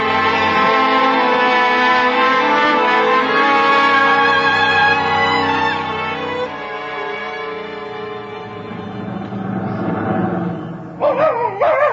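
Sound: dog barking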